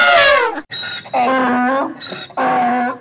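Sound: donkey braying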